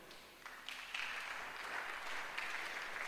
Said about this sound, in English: I thought you'd be clapping for Jesus.